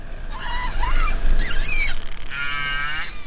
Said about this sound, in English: This is some of the sound that those tags recorded, and it was key to this study, because both orcas and dolphins use sound to hunt. They produce clicks that they use to find their way around, picking up echoes from objects in their environment